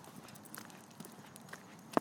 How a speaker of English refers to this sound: Well, this is my footsteps. I'm totally hearing things.